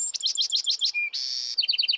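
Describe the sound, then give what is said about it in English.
A Bewick's wren sings outdoors on the first day of spring, a loud song: a rapid series of repeated sweeping notes, a brief whistle, a buzzy trill, then a fast run of sharp repeated chips, with no talking. “Listen to that Buick's wren belt it out.”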